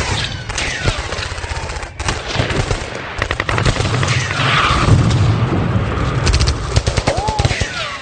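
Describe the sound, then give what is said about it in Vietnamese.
Dense, loud fire from guns of all sizes, machine guns and rifles, crackles continuously like rain, with rapid bursts and scattered single shots overlapping, plus occasional deeper booms underneath the chaotic barrage. “đủ loại súng lớn nhỏ quặt thẳng về phía bọn Nhâm đang nứt như mưa bất.”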